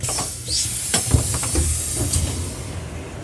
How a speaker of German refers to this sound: Ja, wir sind in Erfurt. Genau. Schöner Bahnhof. Ein sehr schöner Bahnhof, in der Tat.